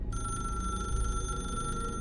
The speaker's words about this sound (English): there's a phone ringing. She looks around at the walls. It's coming down another pathway. This is your phone. This phone is not supposed to be here. This phone is back at the house.